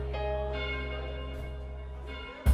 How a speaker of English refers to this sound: The ringing of the division bell had begun.